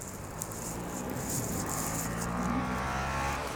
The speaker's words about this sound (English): Oh man, that guy had a new motorcycle and was shifting like a new guy. It's good that he got a motorcycle this late in the year. He can ride through the winter and get better.